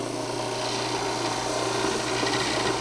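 An electric sander runs steadily against foam, a continuous buzzing drone with a broad, hissy rasp layered over a low motor hum, holding at an even loudness throughout with no voices.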